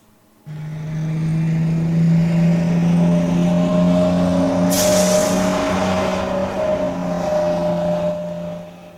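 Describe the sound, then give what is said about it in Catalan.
A bus engine drones steadily with a low hum as the vehicle drives along, joined by a brief hiss of air midway, with no one speaking. “Aleshores, els tres guardians van agafar l'autobús i van anar cap a l'Espel.”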